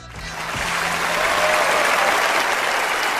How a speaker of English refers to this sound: I had to do the Oscar applause again because I felt bad last week. We had pretty loud applause last week too.